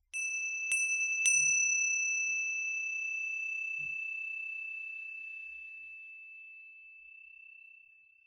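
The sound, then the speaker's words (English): A bell is struck with a clear, bright ring, a couple of quick extra strikes early on, then the tone lingers and slowly fades over several seconds in otherwise quiet surroundings. “And to notice it, we're noticing it passing, like the sound of the bell through time.”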